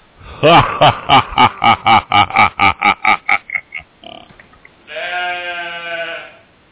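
A rapid, staccato cackling laugh fades out, then a single loud, wavering sheep bleat follows, held for over a second, clear.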